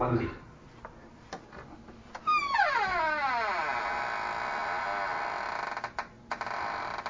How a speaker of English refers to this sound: Now I'm going to open my door, and it sounds like the coffin.